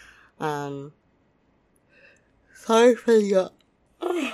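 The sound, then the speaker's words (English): A person yawns audibly, with drawn-out voiced sighs: one short yawn, then a longer, louder one that rises and falls. “Sorry for the yawns.”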